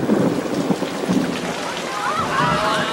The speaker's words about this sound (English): And then it happened. It started to pour.